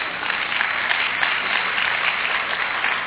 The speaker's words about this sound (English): I asked you not to clap, and I promised myself I wasn't going to get upset.